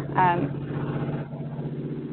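Construction machinery from a construction project next door, started back up after a lunch break, drones with a steady, low, throbbing engine hum; a brief rising mechanical whine cuts in near the start before the rumble carries on evenly throughout.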